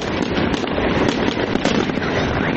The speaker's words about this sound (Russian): В тот же вечер в Грозном состоялось новогоднее праздничное шоу, которое завершилось салютом.